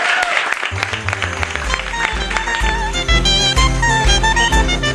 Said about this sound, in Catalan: Fort aplaudiment pel Ricard Ramos.